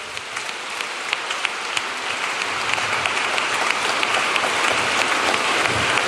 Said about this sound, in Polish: Wielu z was, dzięki ci, Panie, oddajmy Bogu chwałę oklaskami. Halleluja.